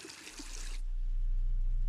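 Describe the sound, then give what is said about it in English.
In a bathroom, a woman turns on the sink faucet to wash her hands; water runs in a steady rush for under a second, then shuts off, leaving only a low, constant hum. No one speaks. “pulls off her ring and puts it on a sink, turns on the water and washes hands.”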